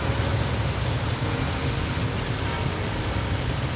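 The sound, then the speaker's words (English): Steady rain pours down in Los Angeles in a dense, continuous hiss with a heavy low rumble underneath, unbroken for the whole stretch, with no voices. “I love when it rains in LA.”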